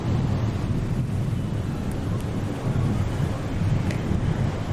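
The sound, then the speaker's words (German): Steady ocean waves wash in a continuous low rumble, with gusty wind noise buffeting the microphone throughout; no voices, just an unbroken roar that swells slightly now and then. “So, ich werde jetzt noch ein bisschen den Wolken lauschen und mir die Wellen angucken.”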